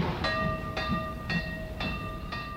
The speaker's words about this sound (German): Der Kölner Bahnhof um 1900. Laut und angsterregend. Dampfende, schnaubende Lokomotiven, hektische Kofferträger, laute Verkäufer, hastende Reisende. Alles ist in Bewegung, eilt, flitzt, hat ein Ziel.